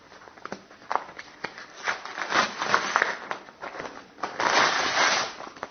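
Two glued sheets of paper being pulled and torn apart, with scattered crackling clicks building into two longer, rough ripping bursts of fairly steady loudness, and no talking.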